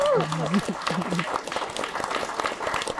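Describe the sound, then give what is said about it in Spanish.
Steady applause from a small group called for as an 'aplausómetro' (applause meter), a dense patter of clapping throughout, with a brief shouted voice rising over it at the start. “No, pues aplausómetro otra vez. Sí. ¡Aplausómetro!”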